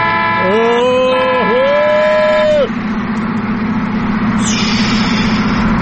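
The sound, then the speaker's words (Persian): A loud, steady vehicle horn blares in two long honks at a Nissan driver, the second following the first after a brief dip, over a constant low engine rumble that continues after the horn stops. “اون نگاه کنه نیسانه تزوری داره رانندگی میکنه، بذار یه بوق بسش بزنم ششش حال بیاد.”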